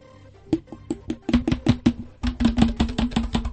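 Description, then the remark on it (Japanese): Sharp, hollow-sounding hand claps strike in a quick, uneven series, almost like a drum being tapped. After a brief pause they resume faster and denser, with no voices. “打楽器的な拍手。”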